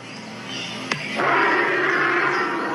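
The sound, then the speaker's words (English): A bird's call that sounds like a big cat roaring: a rough, growling rasp lasting a few seconds, broken by a brief sharp click, then swelling louder and harsher to the end. “Definitely sounds like a big cat, but it is not a big cat.”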